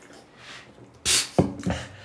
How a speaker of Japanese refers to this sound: なんか味噌汁を飲むみたいな音。